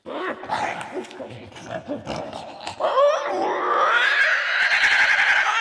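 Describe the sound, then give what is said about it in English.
A voice actor performs a monster vocalization of the kind used for video games, starting with choppy guttural growls and snarls, then rising into a sustained, strained shriek that holds a high, wavering pitch until the end. “does voices and monster sounds for video games.”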